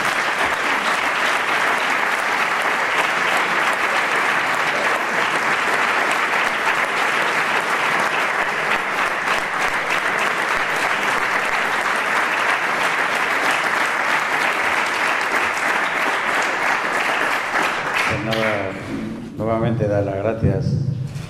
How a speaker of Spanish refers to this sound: Y le damos otro aplauso porque se nos...